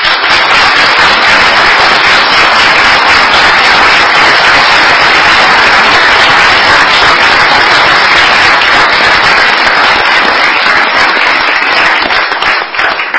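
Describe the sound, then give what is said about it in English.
A crowd gives a big round of applause for highway assistance workers who stand up, loud and steady, dense overlapping clapping that holds at full strength for about thirteen seconds before easing slightly at the end, with no voices heard. “So I just want to give them all, if they could all stand up, and we'll give them a big round of applause.”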